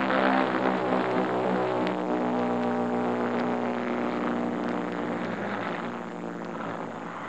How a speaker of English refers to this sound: In the plane, we stand packed abreast. I'm jumping, one but last of my stick. And as we stand there in these planes, for there's no room to sit, we feel the tremendous vibration of the four motors